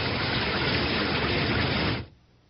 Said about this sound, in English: It's a clear sky above the trees. Maybe we don't get... I was wrong. We get rain again.